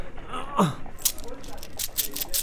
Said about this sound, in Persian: همیان زر است. خدایا، باور نکردنی است. سکه های طلا.